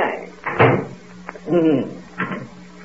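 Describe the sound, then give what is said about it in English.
A back door, used as a shortcut to save a walk to the elevator, creaks open with a squeaky, wavering groan, a brief knock of the latch, then another creak and thud as it swings shut. No voices are heard. “This is a shortcut, this back door.”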